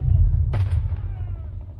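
A single sharp, loud rifle shot cracks out partway through as Georgian militiamen fire their rifles against Bolshevik forces in Georgia, ringing briefly before fading into a steady, heavy low rumble that continues underneath.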